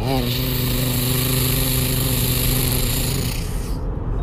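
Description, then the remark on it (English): A voice imitates monster truck engines as the trucks ride up a mountain: a loud, steady buzzing rumble that climbs in pitch at the start, then holds a growling drone for about four seconds before cutting off. “And so they got into their monster trucks and rode up the mountain.”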